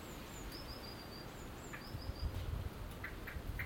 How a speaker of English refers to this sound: That was Mr. Blackbird. He's about 5 feet in front of me on the grass.